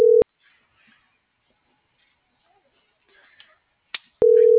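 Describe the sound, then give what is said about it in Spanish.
A loud, steady telephone call tone sounds briefly at the start while a call is being dialed, and returns near the end, with faint muffled background noise and a soft click in the quiet gap between. “No, por eso le estoy marcando primero, bebé.”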